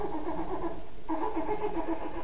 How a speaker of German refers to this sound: Wenn das Kleine trinkt, dann hört sich es so an wie eine Säge.